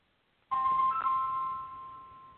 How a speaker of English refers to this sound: Well, we hear the phone ringing, but is anyone else going to answer?